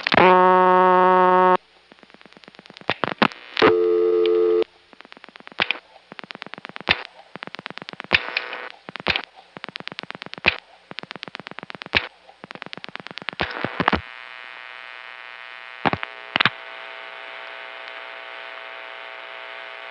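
A Stromberg-Carlson telephone exchange supervision test signal, dialed in a step-by-step Centrex: a loud buzzy tone burst, then a steady hum broken by a rapid, irregular series of sharp relay-like clicks, with no talking.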